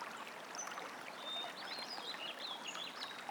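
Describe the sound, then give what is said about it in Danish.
A gentle stream trickles steadily and softly, with faint birds chirping high above the running water. No one speaks. “Se for dig, hvordan du passerer forbi stille rislende vandløb.”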